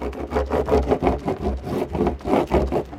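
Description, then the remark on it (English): A surfboard being rubbed with wax at a beach in Maine on the North Atlantic, air about 30 degrees and water 40 degrees, in quick, steady back-and-forth strokes, about eight scratchy swipes with a low rumble underneath and no voices. “So you were waxing up here.”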